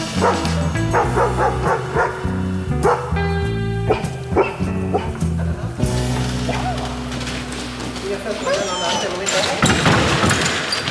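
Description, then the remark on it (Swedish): A dog barks repeatedly in quick, yappy bursts, with some higher whiny yips mixed in and a steady sustained tone running underneath through the middle stretch, as it reacts to a simulated threat at the Swedish Armed Forces' test facility for dogs. “Ska vi se hur hunden reagerar.”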